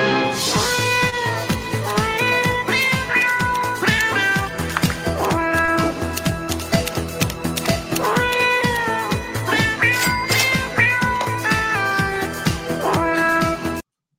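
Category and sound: animal, cat meowing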